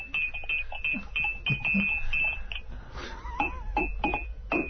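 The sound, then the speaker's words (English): A spoon stirs tea in a cup at the station, making a steady run of light, ringing clinks against the china, repeating at an even pace for several seconds with no voices. “Here is his tea-stirring technique.”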